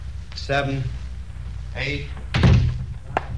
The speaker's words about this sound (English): Shut the door.